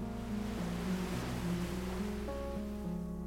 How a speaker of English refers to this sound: Now and then, a thin line of water reaches the shore and slips gently around your feet before pulling back into the sea.